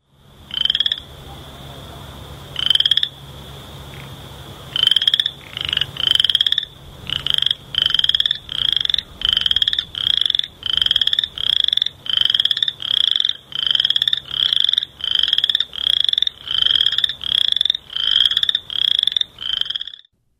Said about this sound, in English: That is an unbelievable sound. I really can't believe that an animal makes that. Can you tell us more about this frog that makes this sound?